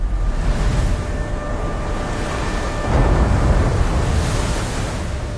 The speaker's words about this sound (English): Convoy HX-25, destination, Liverpool, England. 37 troop and supply ships escorted by four light warships led by. A ship cuts through waves, and a title appears, Greyhound.